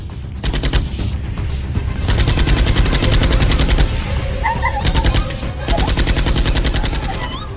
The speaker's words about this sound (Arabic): في الحلقات الجاية هنسمع حكايات سيدات سودانيات ما كانوش يعرفوا إن أول طلقة سمعوها وصحيوا عليها في اليوم ده.